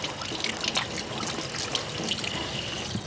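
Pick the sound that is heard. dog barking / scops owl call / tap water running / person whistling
tap water running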